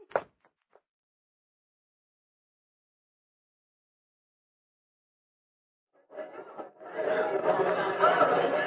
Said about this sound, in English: All right. I only open the cell door.